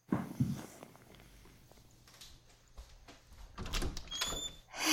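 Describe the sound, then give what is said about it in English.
Metallic clicks and rattles of a lock being worked on a locked door, followed by a heavier clunk and a brief squeak as the door swings open, with no voices. “I don't know why you keep locking your door anyway.”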